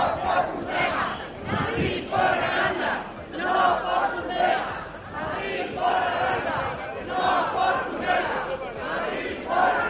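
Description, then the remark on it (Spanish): A large crowd of protesters, old and young, marching in Burgos chants slogans in unison demanding respect and a future, such as "Burgos exige respeto y futuro", loud voices rising and falling in a steady, repeated rhythm that carries on without a break. “A lo largo del recorrido, los manifestantes, mayores y pequeños, exigieron respeto y futuro.”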